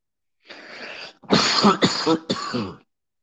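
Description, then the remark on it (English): A raspy throat-clearing sound gives way to a quick run of three harsh coughs, loud and dry, with no talking around them, from a person who is smoking and has nothing to drink. “I'm coughing my ass off because I got nothing to drink around me.”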